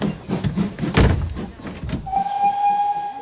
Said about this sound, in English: It's here! The train's here!